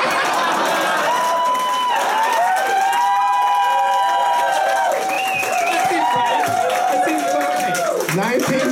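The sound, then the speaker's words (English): An audience claps and cheers steadily for several seconds, a dense wash of applause with voices whooping and calling out over it, staying loud throughout. “You can clap all you want, you assholes.”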